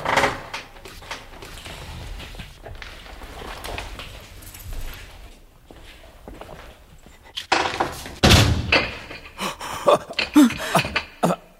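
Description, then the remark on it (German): Someone tries to open a door bolted from the outside: after a stretch of quiet shuffling, a loud burst of rattling and several sharp wooden thunks as the door is yanked but won't give. “Jemand hat die Tür von außen verriegelt.”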